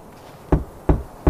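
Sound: knocking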